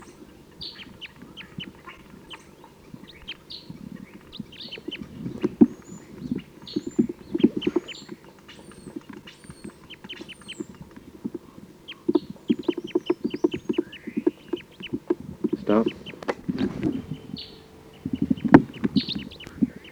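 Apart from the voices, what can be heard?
wild bird calls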